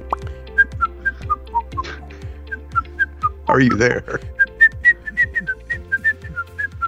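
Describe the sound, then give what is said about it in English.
A song tune whistled as a bouncy, staccato melody in quick, evenly spaced short notes, clear, briefly interrupted midway by a person speaking before the whistling resumes. “I heard some whistling. I was doing the ….”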